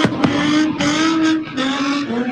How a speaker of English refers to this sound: Engines revving, vehicles spinning, rubber burning, fireworks exploding.